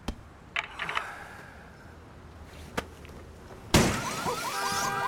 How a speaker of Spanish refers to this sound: Junto al portal, cae la maleta por la ventana destrozando los cristales de su coche.